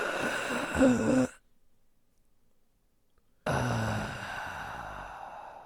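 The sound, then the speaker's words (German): Heavy, forceful breaths through the mouth, loud, part of a breathing exercise repeated six times: one harsh rush of air, a pause of about two seconds of silence, then another long, noisy breath. “Ich rotze hier das Ding voll, weil ich zu kräftig ausatme.”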